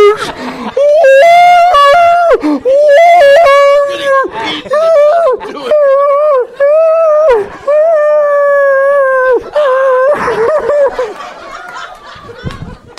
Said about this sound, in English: You feel so bad for the dog.